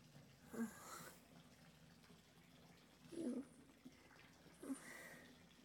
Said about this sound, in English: And it's like water's all filled up. You can stop it running now.